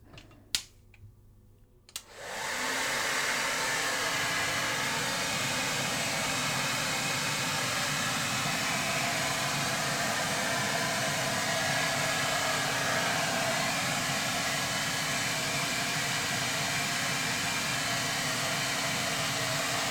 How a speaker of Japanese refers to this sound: ドライヤーで乾かしていくから。